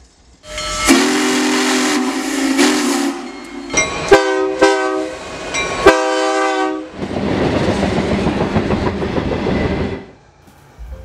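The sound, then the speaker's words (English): A train horn sounds a long held blast and then several short ones, followed by the loud, steady rumble and clatter of a long freight train, pulled by a couple of locomotives, rolling past car after car. “As car after car rolls by, it's hard to imagine how just a couple locomotives can pull all that tonnage.”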